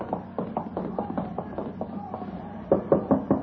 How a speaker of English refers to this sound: You're knocking the door.